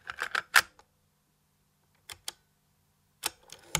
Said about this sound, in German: Zumindest hört man immer wieder Geräusche, die das suggerieren und diesen Eindruck verstärken sollen, etwa hier von einer Kassette, die in einen Kassettenrekorder eingelegt wird.